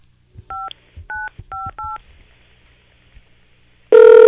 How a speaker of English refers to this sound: Well, it's ringing. That's a good sign. Didn't ring before.